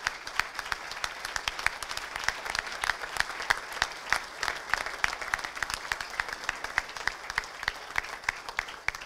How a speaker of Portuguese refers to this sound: Merece, de facto, esse nosso reconhecimento e esse nosso aplauso.